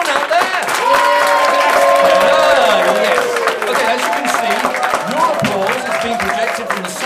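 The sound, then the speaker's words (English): A large audience claps loudly and continuously during a test run of a clapometer, a dense wash of applause mixed with whoops and cheering voices that holds steady for several seconds. “If you could all now applaud, please. Come on, louder.”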